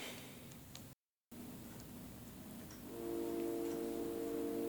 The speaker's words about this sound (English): Ah yes, the 9 o'clock train.